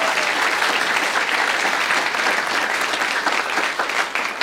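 A crowd claps steadily and loudly, a dense wash of many hands with no pauses, tapering slightly toward the end.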